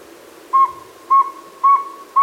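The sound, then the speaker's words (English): A saw-whet owl calling: a steady run of short, high, whistled toots, four in quick succession at an even pace, clear, with no voices present. “Here's what a real saw-wet owl sounds like.”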